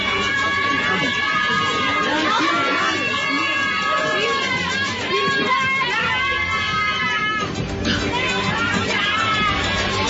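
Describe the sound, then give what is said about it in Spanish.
A large crowd shouts and chants "sí se pudo" together in a loud, continuous roar of overlapping voices, with rising and falling cries rippling through the mass of sound, as it welcomes the arriving government delegation of Humberto de la Calle and Sergio Jaramillo. “Llega la delegación del gobierno y el grito, don Álvaro, de la gente que lo está recibiendo es sí se pudo.”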